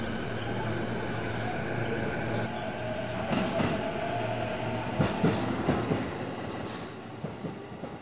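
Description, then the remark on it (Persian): A train rolls steadily along the rails with a constant low rumble and faint whine, punctuated by a few sharp clacks and thumps as the wheels pass over track joints. “تو داخل اون قطار نمیری، فهمیدی؟”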